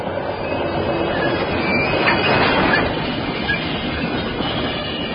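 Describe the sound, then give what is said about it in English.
A train brakes hard to avoid a collision, its wheels locking on the rails and throwing sparks. It roars along in a dense, steady rumble while thin, high metallic squeals from the wheels cut through, swelling briefly in the middle. No voices are heard. “I felt our wheels freeze beneath us and saw sparks fly in every direction from the rails as we struggled to avoid a collision.”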